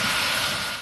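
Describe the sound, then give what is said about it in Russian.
A steady, loud roar of large military aircraft engines at an air base in Japan, where huge planes are refuelled in the air; a broad continuous rumble and whoosh that stays constant before easing slightly at the end. “На авиабазе в Японии огромные самолеты заправляются в воздухе, чтобы разведывательные воздушные судна кружились в воздухе.”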